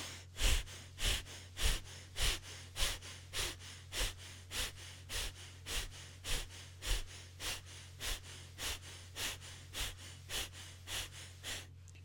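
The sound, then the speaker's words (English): Rapid, forceful power breathing during a guided breathing exercise, roughly twenty sharp breaths in a steady, even rhythm, fairly loud over a faint low hum, with no talking. “If you're okay to do it, if not, it's okay to just rest and breathe easily. Power breathing.”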